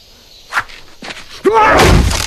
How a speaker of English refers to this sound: Pai Mei smashes his fist through a thick plank of wood.